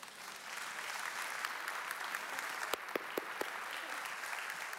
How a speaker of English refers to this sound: I want to ask you, it's okay to clap.